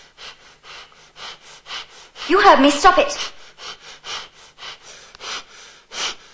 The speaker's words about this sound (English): stop breathing like that.